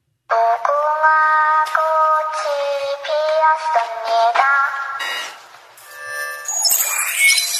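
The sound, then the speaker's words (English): A Squid Game novelty alarm clock goes off with a loud electronic jingle of stepped, repeating notes, then shifts to higher, shriller tones that end in a crackly, distorted burst. “Do you want a Squid Game alarm clock? Here's what it sounds like.”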